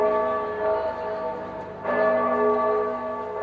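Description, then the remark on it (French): A church clock bell striking eleven in the morning tolls, two resonant strokes about two seconds apart, each leaving a rich, humming ring that lingers and overlaps the next. Loud and steady, with no voices. “11 coups sonnèrent à l'horloge de l'église.”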